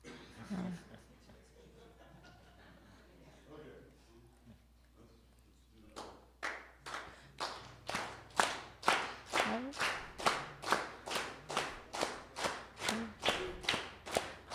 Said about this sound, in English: Clap.